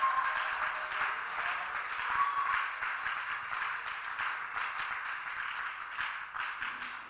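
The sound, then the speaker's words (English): A crowd claps steadily for several seconds in thanks to Christ, a dense, continuous wash of applause at a fairly even level, tapering slightly at the end, with no distinct voices standing out. “I want you to clap thanking him and shouting a big amen.”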